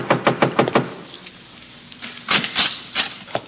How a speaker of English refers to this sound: I'm walking upstairs to Jackson Flat. I'm knocking at the door.